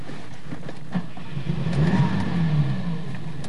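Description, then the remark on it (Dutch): A car parked along the roadside revs its engine and pulls away, the low rumble swelling in the middle and then holding steady, with no voices. “Je hebt hier nou wel je auto zo mooi neergezet langs de kant van de weg. Maar ik vraag me eraf of we er nog uit kunnen.”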